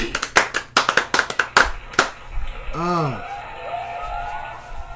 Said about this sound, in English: You guys have been a delight. Big round of applause for my consecrated crew.